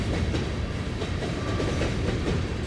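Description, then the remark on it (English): A long freight train carrying coal in from Wyoming rolls steadily past, a continuous heavy rumble with rhythmic clickety-clack of wheels over rail joints and no voices. “Those long freight trains of coal coming in from Wyoming.”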